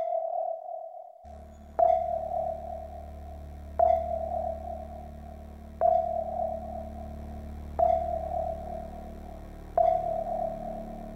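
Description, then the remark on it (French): A steady sonar-like tone, a 'sonaroïde' sound piece on France Culture radio, hums throughout, punctuated by sharp pings every two seconds, five in a row, over a low rumbling drone. No one speaks. “Il y a comme un bruit, un sonaroïde en lieu et place du traditionnel Polaroid.”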